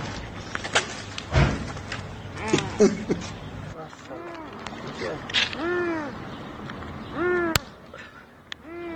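animal, trapped cat meowing

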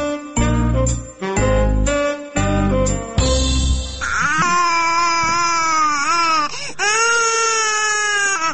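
human body sound, baby crying

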